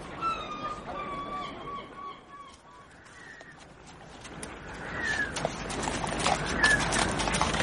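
A town guard's horse's hooves clip-clopping in an uneven rhythm, the sharp knocks growing louder and denser toward the end, after a thin, sustained tonal call fades out early on.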